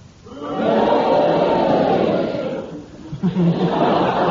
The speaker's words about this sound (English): If you agree with Clement Freud's challenge, you cheer for Clement, and if you disagree, you boo for Derek Nimmo, and you all do it together now.